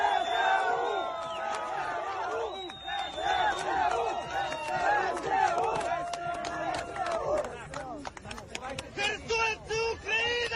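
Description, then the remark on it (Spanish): A large crowd in the recaptured city of Kherson, Ukraine, welcoming Zelensky, chants "Kherson is Ukraine" together in loud, jubilant unison, voices rising and falling in a steady rhythm, with sharp claps and shouts breaking through toward the end. “Gritan Jersón es Ucrania porque ha vuelto a serlo.”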